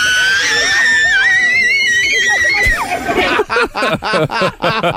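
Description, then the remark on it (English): A loud, shrill steam kettle whistle holds a wavering high pitch for a few seconds, then gives way to choppy, rapid bursts of a child's high squealing screams when Justin Bieber showed up to play a game of basketball. “Right, so that's a steam kettle that you would have, and then this is the kid.”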